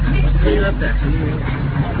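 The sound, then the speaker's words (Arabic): A steady, loud generator drone rumbles continuously through an open window for the whole stretch, with an indistinct murmur of voices mixed into the background. “نعم شيخ الشباك هذا النافذة مفتوحة. وإلا وإلا كان فجر السيارة. لا الصوت لا مفتوحة مولدة”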